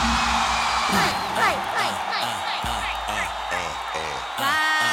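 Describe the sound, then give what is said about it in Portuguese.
An audience shouts and whoops together in response to a call to shout, a loud, sustained burst of overlapping yells that lasts several seconds, with individual voices rising and falling within the din. “Quem acha que ela deu porque ele é safada, dá um grito.”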